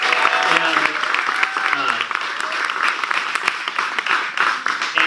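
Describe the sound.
An audience applauds in a steady round of dense, overlapping claps lasting several seconds, with a few voices calling out near the start.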